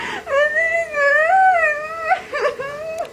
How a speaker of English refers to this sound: guess what film the lady is crying at just from the crying